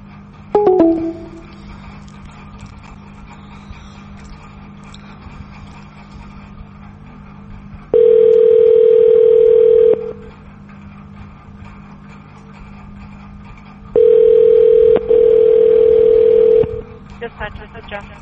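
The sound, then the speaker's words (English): A brief falling electronic chirp, then loud, steady telephone line tones in long two- to three-second bursts separated by a few seconds of low hum, a dial tone after a police chief hung up the phone on the call. “He listened to me, he talked with me, and he hang up the phone.”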